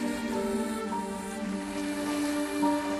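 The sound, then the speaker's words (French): Mediterranean Sea waves wash steadily against the shore at Porquerolles in a continuous, even rush of water, with a faint low hum running underneath and no one speaking. “Des vagues, la Méditerranée, des grillons qui se régalent, nous sommes à Porquerolles.”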